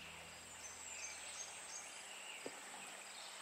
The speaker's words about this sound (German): Du siehst das Grün der Bäume und du hörst das Singen der Vögel.